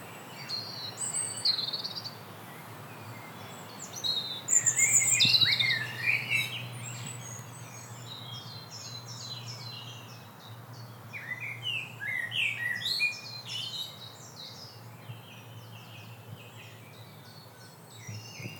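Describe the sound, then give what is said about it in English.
A lively chorus of birds chirps and trills from several directions among the trees of an arboretum, heard while walking along, the calls overlapping steadily over a low, constant background hum with no voices. “And now, as we walk along, we can really hear the birdsong.”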